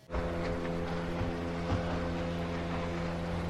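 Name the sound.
boat approaching over water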